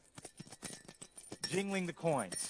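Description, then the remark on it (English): Coins jingle and clink in a cup held by a person in a cloak imitating a beggar's posture, a quick run of bright metallic rattles, followed by a person's drawn-out voice as the jingling continues underneath. “Jingling the coins, trying to see, trying to hear.”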